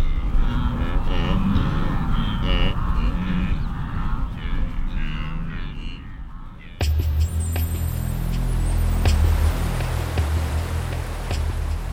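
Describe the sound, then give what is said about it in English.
A large herd of wildebeest at the River Mara makes a steady, dense din of low grunting, lowing calls as the animals communicate, over the patter and thud of many hooves, growing heavier and more rumbling partway through. “Then you can't hear much else because of this constant rumble of the animals communicating and the sound of the hooves.”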